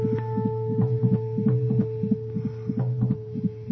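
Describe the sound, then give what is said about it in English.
A steady, rapid baby's heartbeat altered by changing its pitch, giving an electronic quality, its paired thumps repeating quickly over a constant low hum, with no one speaking. “By changing the pitch, I'm going to alter the sound of the heartbeat.”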